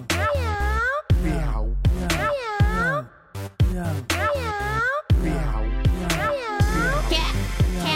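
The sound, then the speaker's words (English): A child's voice imitates a cat, giving a rapid run of loud meows with rising and falling pitch, about eight in a row with brief gaps between them. “So, chow chow meow meow. Chow chow meow meow. Meow. Meow. Meow.”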